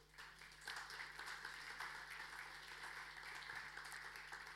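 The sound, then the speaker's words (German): Steady applause from an audience for three people about to perform, a dense wash of many hands clapping continuously at moderate volume, with no speech over it. “Applaus für die drei.”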